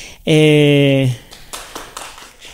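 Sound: audience applause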